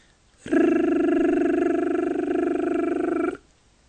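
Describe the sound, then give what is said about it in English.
A voice chants the letter R, holding a steady, buzzing rolled R for about three seconds, a low trilled drone with a fast flutter that sounds like a very small idling engine, starting and stopping abruptly. “When we start chanting the letter R, the first thing that we should know is that it should sound like a very small engine.”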